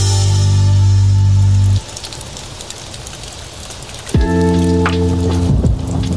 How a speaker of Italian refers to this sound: Ogni traccia del nostro album della settimana si conclude e si apre con lo scroscio della pioggia